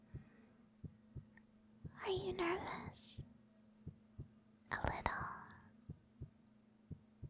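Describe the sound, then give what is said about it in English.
A steady heartbeat thumps softly about once every two-thirds of a second throughout, while two brief whispered exchanges pass over it. “I can hear your heartbeat, honey.”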